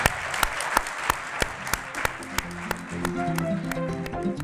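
A crowd applauds three people being honored for doing good, with steady, dense clapping, sharp individual claps popping out of the wash; about halfway through, sustained musical tones start up underneath the applause.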